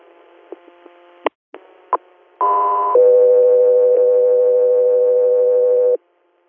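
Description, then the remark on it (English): Radio dispatch alert tones for the Echo 3 Air unit: a few brief clicks and blips, then a loud steady high tone that shifts after a half second to a lower sustained tone lasting about three seconds before cutting off. “Echo 3, are standby for tones.”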